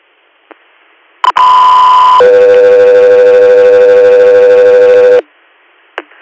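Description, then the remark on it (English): Radio dispatch alert tones for an air medical transport request: a short high steady tone followed by a longer, lower sustained tone lasting about three seconds, loud and clear over faint radio static, with brief squelch clicks before and after. “Air, stand by for tones.”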